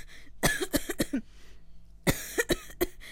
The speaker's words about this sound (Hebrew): כן, כן, אני שומע את השיעול, זה לא נשמע משהו מדאיג.